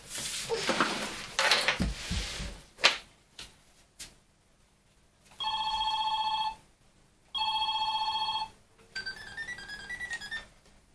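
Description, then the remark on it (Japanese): A telephone rings in two steady electronic bursts, followed by a short tinkling melodic tone, after some rustling and clattering handling noises at the start. “誰から電話？”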